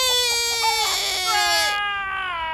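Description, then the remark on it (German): A voice imitates a rooster's crow: one loud, drawn-out, nasal call that rises, wavers and falls over about two and a half seconds, with no other sounds. “Und die Hahn kreide von Duck. Kikriki!”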